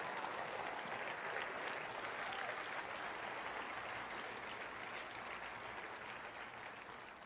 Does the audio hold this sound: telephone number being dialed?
no